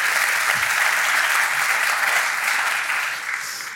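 An audience claps steadily for a guest in a dense, sustained burst of applause that holds loud for a few seconds before beginning to taper off at the end. No one speaks over it.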